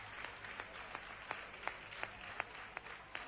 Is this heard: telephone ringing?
no